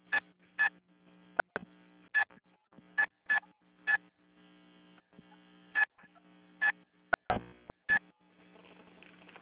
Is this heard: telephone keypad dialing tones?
yes